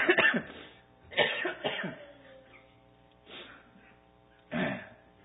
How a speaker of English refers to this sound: And so what we have there is another cough.